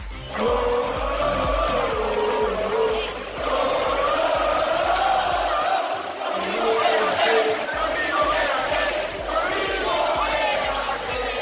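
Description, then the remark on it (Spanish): A large crowd of Valencia football fans chants the name of Rodrigo over and over, a loud, continuous roar of massed voices rising and falling in pitch, with brief dips before swelling again. “Ayer, la afición del Valencia no paraba de gritar esto de Rodrigo.”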